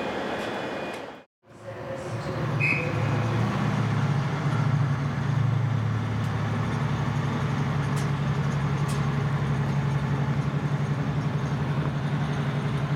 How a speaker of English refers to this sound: And we are off. Just pulling out of Glasgow Queen Street. See you later, Glasgow.